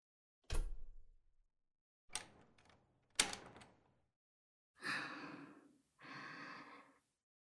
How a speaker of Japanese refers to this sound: さあ、どうぞこちらに。扉閉めますね。